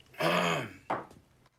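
A man seated at the head of a long meeting table gives a drawn-out, rough guttural throat clearing followed by a shorter harsh rasp, fairly loud, with no talking.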